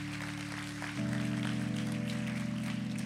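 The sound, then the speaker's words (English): A crowd claps steadily throughout, a dense patter of many hands blended with sustained keyboard chords that swell louder about a second in. No one speaks. “Can we just clap and thank God for this amazing church that's generous?”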